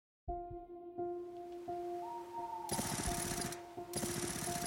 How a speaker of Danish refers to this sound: Lyden af flere skudsalver flænser gennem februar natten i Himmelev, nær ved Roskilde.